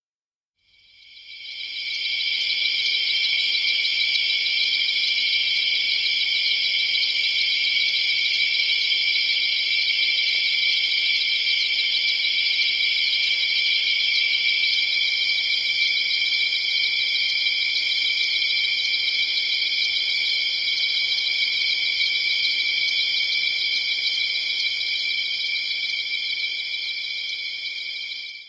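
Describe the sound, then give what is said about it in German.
A dense chorus of crickets trills steadily and unbroken for the whole stretch, a bright high-pitched shimmer filling the night with no voices or other sounds. “Die Grillen in der Nacht.”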